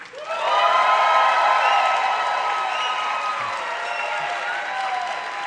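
A live audience votes by applause between the films Unforgiven and Reservoir Dogs, breaking into sustained applause and cheering. It is loud and steady after a brief quiet start, with dense clapping mixed with high whoops and shouts that keep going to the end.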